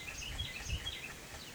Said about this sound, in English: You can hear something singing out there now. What are they? Birds.